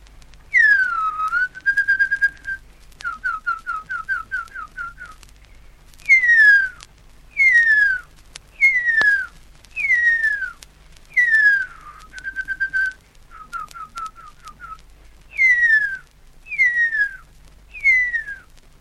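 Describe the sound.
A person whistles imitations of hurya bird calls, alternating long downward-sliding whistles with quick runs of short, even, repeated notes. The whistling is clear and fairly loud, with brief pauses between phrases and no talking.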